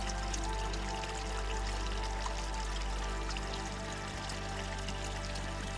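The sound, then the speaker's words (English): Steady, gentle flow of water from a mountain spring, a continuous soft rushing and trickling with faint splashes, even in level and unbroken throughout, with no voices. “And so you drift, floating in a sea of warmth and serenity, as the sights, sounds, and sensations of the mountain spring carry you gently into the welcoming arms of sleep.”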